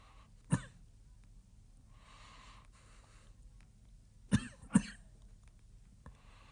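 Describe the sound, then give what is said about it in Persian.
Three sharp coughs from a sick person: one early, then a quick pair a few seconds later, with faint breathing and quiet room noise between them and no talking. “برای کمی سرفه کردن ظرف و اتاقتون جدا کردین، حالا باید شهرمون جدا باشه.”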